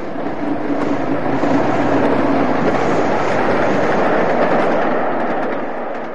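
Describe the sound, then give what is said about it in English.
A steam locomotive, a Patriot, racing along the rails of the Trent Valley line at about 100 miles an hour: a loud, continuous roar of rushing noise that swells slightly and holds steady for several seconds, with no voices. “Arthur was there blasting this Patriot along the Trent Valley line. He must have been doing 100 miles an hour with this train.”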